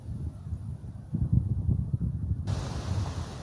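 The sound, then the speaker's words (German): Wind gusts rumble low and unevenly through a forest beside meadows and fields, swelling after a quiet start; partway through, a soft, steady rustle of the forest's leaves rises and continues under the gusts to the end. “Ein Wind ist aufgekommen und raschelt durch die Blätter des Waldes.”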